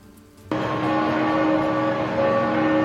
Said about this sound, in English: That's bells ringing in Rome at the St. Mary Major Basilica, where Pope Francis has been laid to rest in a simple underground tomb.